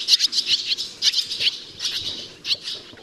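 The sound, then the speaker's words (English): A rapid, continuous stream of high chirping and twittering bird calls from barn swallows in a horse barn near Boulder, Colorado, bright and busy with frequent sharp notes, and no one speaking. “Rebecca Safran's research on barn swallows was published earlier this year in the journal Current Biology”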